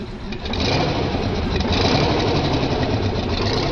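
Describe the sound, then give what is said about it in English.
A big truck engine runs steadily as the truck is driven, a loud, continuous rumble with a rapid mechanical rattle and no pauses, with no voices. “This is a snake. It's driving a big truck.”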